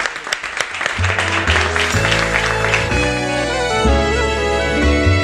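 Loud audience applause bursts out and keeps going while a band strikes up, the clapping soon sitting under full, steady music.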